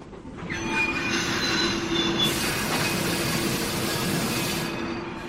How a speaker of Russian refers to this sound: Вдруг вагон качнуло, тошнотворно заскрежетали тормоза.